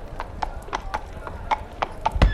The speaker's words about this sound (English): Oh, he's riding a horse around the bar. Let's listen to that for 10 seconds.